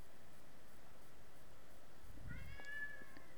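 A single short cat meow near the end, fairly soft, preceded by a low muffled thump, against a quiet hissy background with no one talking.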